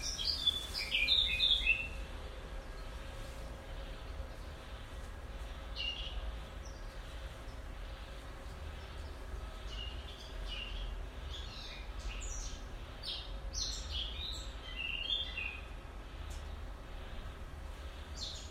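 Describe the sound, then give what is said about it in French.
A European robin sings in short, high, thin phrases, clearest at the start, then continues as scattered, fainter bursts as it moves away, over a steady low background hum. “Rouge-gorge ? Peut-être.”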